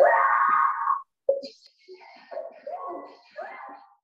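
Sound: woman's loud scream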